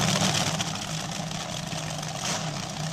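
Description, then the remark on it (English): A nitromethane-fueled drag racing engine burning raw fuel idles loudly, a harsh, steady rumbling roar with a raspy crackle that holds for the whole stretch without any clear rev. “But the sound sensation, and then by that time, with that many cars running, that much nitromethane, and it's a lot of it is just raw fuel.”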